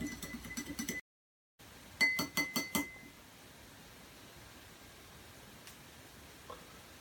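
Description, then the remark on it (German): A spoon stirs a dosing spoonful of a base supplement briskly into a glass, clinking rapidly against the sides in a quick rhythmic burst, pausing, then clinking again before fading into soft background hiss. “Und rühren kräftig.”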